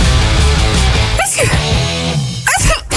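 Two sharp sneezes burst out, about a second apart, close and loud, over a continuous bed of loud guitar-driven music that plays throughout.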